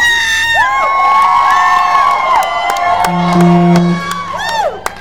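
A large audience, asked to scream loudly, screams and cheers loudly and continuously, high-pitched shrieks and whoops overlapping in a dense wall of sound, with a few sharp claps or shouts cutting through.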